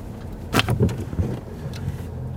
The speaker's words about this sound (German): Mit einem kleinen grünen Auto mit Vierradantrieb fahren wir in das Naturentwicklungsgebiet hinein.